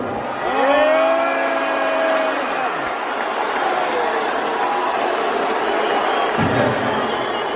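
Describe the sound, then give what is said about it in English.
A large audience roars loudly throughout, a dense mix of cheering and long, low booing from many voices, with sharp whistles cutting through the sustained crowd noise, as the richest man in the world is introduced. “introduced Elon Musk to a mixture of boos and cheers”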